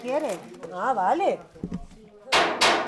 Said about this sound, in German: Jetzt kratzt das Küchenteam noch die große Paella-Pfanne leer und füllt den Rest in einen Plastikeimer.